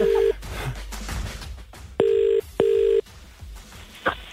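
A phone call rings out on the line: a steady electronic ringback tone sounds briefly, then a clear double burst of two short rings, with quiet line noise and a faint click between.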